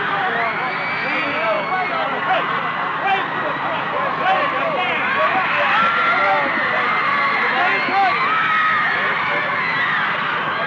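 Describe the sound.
A large crowd of fans on an airport concourse screams and yells nonstop while waving goodbye as a band boards a plane for England, a dense wall of high-pitched shrieks and shouting voices that stays loud and steady throughout.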